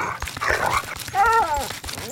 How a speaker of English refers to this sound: Fucking dog's losing it.